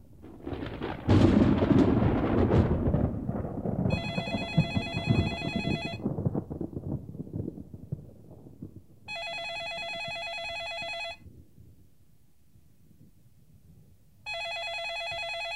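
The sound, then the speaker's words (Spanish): A telephone rings three times in regular, evenly spaced bursts, loud, while a rumble of thunder from a storm rolls underneath at the start and fades away. “¡Yo contesto! ¿Aló?”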